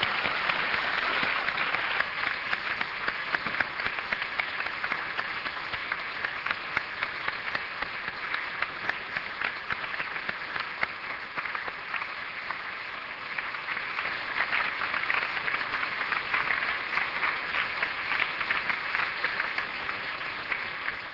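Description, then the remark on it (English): Sustained audience applause for Sam, who chaired the evening's proceedings, a dense, steady wash of many hands clapping at fairly even loudness for about twenty seconds, with no voices breaking through. “Why don't we give Sam a big round of applause as well for chairing the whole thing.”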